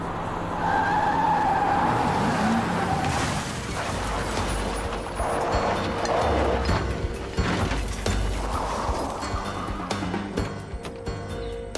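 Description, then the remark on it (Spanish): A car's tires squeal in a loud, sustained skid over roaring engine noise, followed by heavy metallic crunches as it rams a police patrol car. The scene is chaotic and loud, with no speech. “Knowles embistió la patrulla.”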